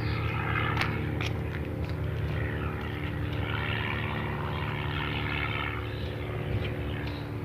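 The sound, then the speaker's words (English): A propeller airplane drones steadily overhead in the morning, its low, throbbing engine hum loud and continuous for the whole stretch, with no voices. “Lots of planes out here this morning.”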